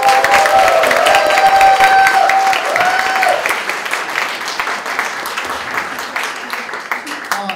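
An audience at a stand-up comedy show breaks into loud, sustained applause for a comedian, with some cheering and whistles mixed in, the clapping dense and continuous before gradually thinning out toward the end.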